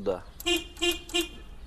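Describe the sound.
Three short, evenly spaced toots of a vehicle horn, fairly loud, each a brief bright beep, following a quick snippet of a voice at the start; the horn control has been moved on a vehicle adapted with a throttle lever on the handlebar and a hand brake.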